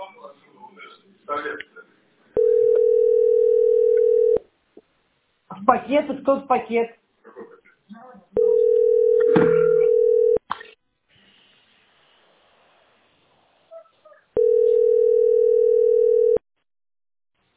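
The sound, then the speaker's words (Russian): A telephone line tone sounds three times as someone places a call, each a steady low-pitched beep lasting about two seconds, separated by long pauses in which a person speaks briefly. “Подойди, я звоню.”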